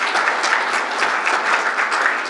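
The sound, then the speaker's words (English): A Navigator Conference audience claps steadily in a dense, continuous burst of applause, loud and even throughout with no voices rising above it. “And we applaud the rest of you for coming back to yet another conference.”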